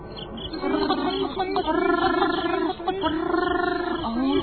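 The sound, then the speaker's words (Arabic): Loud frog croaking from a frog living on a farm, in long, rattling bouts, three stretches of raspy calls separated by brief pauses, with no talking over it. “هذا الضفدع كان يصدر صوتا مزعجا خصوصا في أوقات الليل، بحيث لا يتمكن الآخرون أن يناموا أو يرتاحوا قليلا.”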